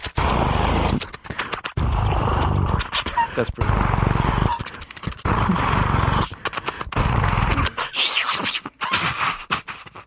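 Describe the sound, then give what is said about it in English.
Someone vocally imitates a helicopter minigun with loud, gritty, rasping bursts of rapid buzzing, broken by short pauses, repeating over and over with a growl-like texture. “This is a helicopter minigun.”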